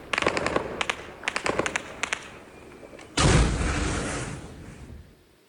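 Rapid bursts of gunfire crackle in several quick clusters, fairly loud and sharp, followed by a sudden heavy rumbling roar that swells and fades over a couple of seconds. No one speaks.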